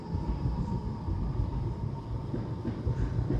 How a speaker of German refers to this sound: Straßenbahn. Die lauteste in Deutschland. Sagt man so.